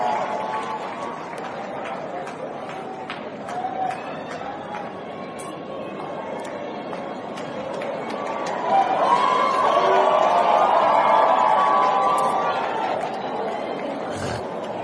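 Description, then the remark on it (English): A crowd applauds with scattered claps under a steady wash of voices, and the cheering swells louder partway through before easing off slightly. “Now give her a hand clap, give him the microphone.”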